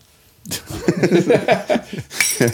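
A couple of bright ceramic clinks of coffee cups tapped together in a toast ring out amid chuckling voices and murmured talk.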